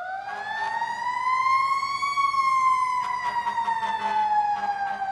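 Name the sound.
fire engine siren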